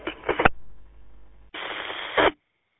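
Two abrupt bursts of harsh, crackling radio interference over the Halink repeater channel, separated by a second of faint hiss, each cutting off sharply like a keyed transmitter.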